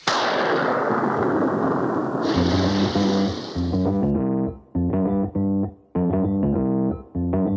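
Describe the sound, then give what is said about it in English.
A loud rumbling thunderclap with a steady hiss of heavy rain for about four seconds, then cut off as upbeat music with a strong rhythmic beat takes over. “Could be raining.”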